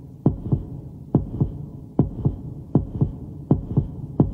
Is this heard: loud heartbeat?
yes